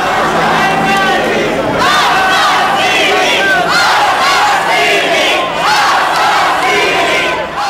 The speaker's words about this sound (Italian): e cominciano a uscire i primi feriti dalla scuola e la reazione della gente che piano piano sta creando un capannello intorno a questa fabbrica di terrore e di sangue urla così.